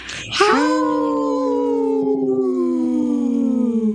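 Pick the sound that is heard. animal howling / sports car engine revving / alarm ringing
animal howling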